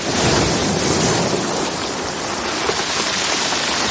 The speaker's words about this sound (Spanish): El sonido de una cascada, el sonido de las olas del mar.